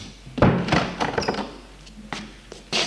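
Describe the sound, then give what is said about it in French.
A woman pushes a bathroom door shut: a dull thunk and rattle of the latch, followed by a couple of softer knocks and a brief scrape near the end. “Elle ferme la porte de la salle de bain.”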